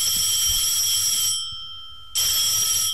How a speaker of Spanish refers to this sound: Vamos a ver si... Hombre, el teléfono.